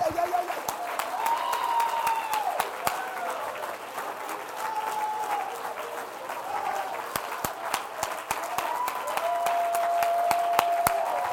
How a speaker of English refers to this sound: Don't clap for me. Just clap for Jesus. Come on. Come on. Come on. Why don't you clap in the face of your cancer? Why don't you clap in the face of diabetes? Why don't you clap in the face of unemployment?